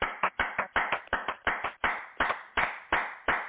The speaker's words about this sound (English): Let us give the Most High hand clap of praise.